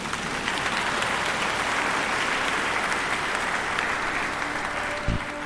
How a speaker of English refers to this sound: Yes, you can clap if you want, by the way.